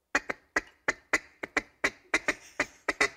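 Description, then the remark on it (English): A mallard hen's feeding chuckle: a quick, steady run of about a dozen short, raspy clucks, some paired, repeated with no talking over them. “Now, that's the mallard.”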